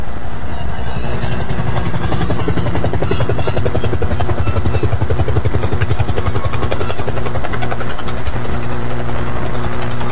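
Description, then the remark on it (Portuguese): A helicopter landing at a VIP box (camarote) at an event: loud, steady rotor thump and engine drone fill the whole stretch, continuous, with a rhythmic chopping pulse and no clear talk over it. “Nesse momento vai pousar um helicóptero lá no camarote.”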